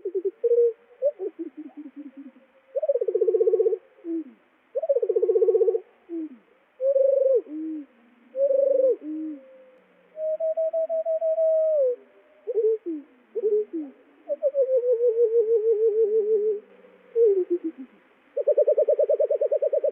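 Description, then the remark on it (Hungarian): Birdsong slowed down eight times becomes a series of low, drawn-out whistling tones that slide up and down in pitch, phrase after phrase with brief pauses, clear with no talking. “Nyolcszoros lassításban éneke csúszkáló hangokból áll.”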